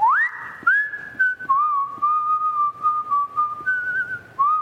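A person whistles a slow melody, the clear pure tones sliding up and settling into long held notes with brief dips between phrases, close and fairly loud with no talking.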